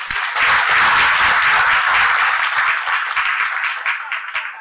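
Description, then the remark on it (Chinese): A crowd applauds steadily to welcome Representative Xu, many hands clapping in a dense, loud wash that holds for several seconds before easing slightly toward the end, with no voices over it. “掌声欢迎我们的徐代表。”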